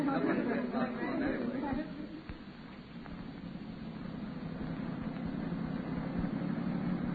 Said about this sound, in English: slow the patrol car up, will you?